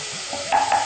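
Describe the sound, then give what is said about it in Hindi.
A coriander and mint paste with tomato sizzles steadily in hot oil while a utensil scrapes and stirs the pan, frying until the water dries and the oil separates, with two brief, brighter scraping strokes near the end. No one speaks. “पानी लगभग सूख रहा है, थोड़ा और भूनिए जब तक तेल छूटता हुआ नजर आए।”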